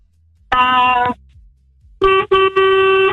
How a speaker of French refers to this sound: Ah, le klaxon du camion.